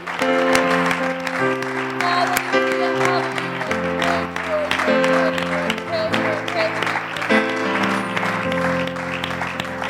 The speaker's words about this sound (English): I say, why don't we applaud the Lord for his goodness? I applaud your work.